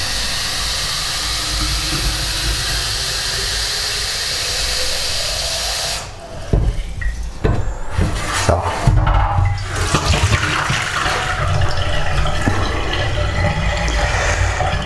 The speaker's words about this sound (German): Den Deckel noch abspülen.